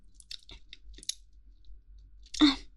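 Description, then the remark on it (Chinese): Close-up chewing of tough, chewy meat: irregular wet smacks and soft crackly clicks, quiet at first, then one louder, fuller bite toward the end, with no talking. “啊，当然不一样，这也是鸡鸡嘛，太有嚼劲了吧？”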